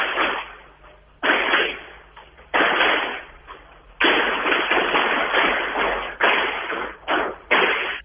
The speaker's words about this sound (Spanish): Le caminaron por arriba, ¿eh? Al punto de que hasta cortaron la comunicación. No era un estallido, eran los taconeos.